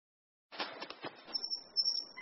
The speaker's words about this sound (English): Oh, hello, bird. What's your name? Tweet, tweet. Hello, tweet, tweet.